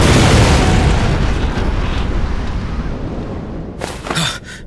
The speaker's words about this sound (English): Had that been an explosion?